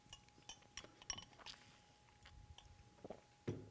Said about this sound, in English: I hate taking a break for a sip. That just, the momentum stalls. And then I start spitting everywhere.